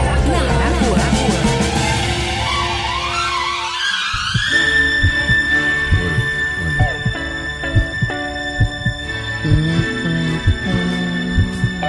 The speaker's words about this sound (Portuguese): Coração batendo forte.